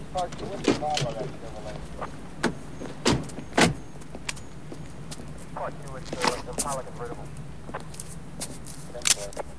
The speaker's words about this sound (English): They both climb out of the car.